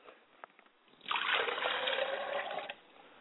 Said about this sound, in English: As I pour the water, I would like for you to participate with me by saying, Ashe. And this is a very special moment that we do for the family, to show them how to commune with their ancestors. As I pour the cup of water for my father, I say, Ashe.